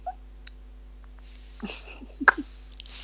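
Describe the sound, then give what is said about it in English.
A baby girl gives a short cluster of small, breathy coughs, one sharper and louder than the rest, after a quiet stretch with only faint background hum and a few tiny clicks. “Even the coughs are cute.”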